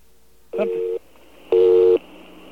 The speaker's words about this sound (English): There we go. Okay, so that's actually a busy signal, even though it sounds like a dial tone.